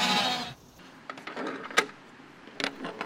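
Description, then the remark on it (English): Sheep from a lawn-mowing business that uses sheep bleat a few times on a farm as they are called out in the morning, their calls mixed with scattered knocks and rustling, after a brief burst of hissing noise at the start. “All right, sheep. You guys ready to come out? Morning, sheep.”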